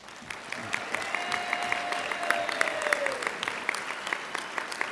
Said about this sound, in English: And we're part of a broader team yet still, the team of the staff of the National Federation of the Blind. And I would like to, for all of you, give everyone a big applause.